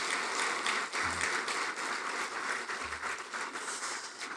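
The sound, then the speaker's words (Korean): A church audience applauds steadily to encourage the choir, a dense wash of many hands clapping at a fairly even level throughout, with no voices over it and a couple of soft low thumps mixed in. “우리 찬양대를 위해서 우리 한번 격려의 박수를 한번 하도록 하겠습니다.”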